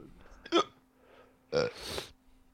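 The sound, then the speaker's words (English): Two short, sharp hiccups about a second apart, each a quick voiced gulp with a bright burst of breath, separated by near silence. “I can't stop hiccuping, boys.”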